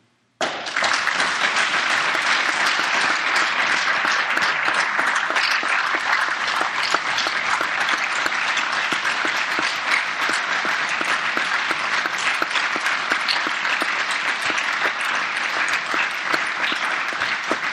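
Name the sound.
audience applause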